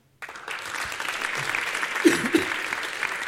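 Sustained applause from a talk audience welcoming the presenter, a dense wash of many hands clapping that starts abruptly and holds steady, with a couple of louder claps near the end.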